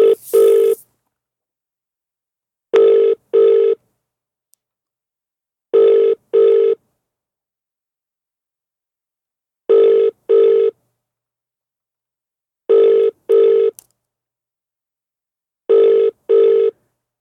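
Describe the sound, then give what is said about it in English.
A telephone ringback tone on an outgoing call, double rings repeating about every three seconds, steady and clear with silence between them and no voices. “Who am I trying to ring?”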